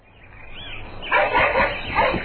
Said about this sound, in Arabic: وبدأ الكلب ينبح بشدة. خاف الولدان وهربا فورا.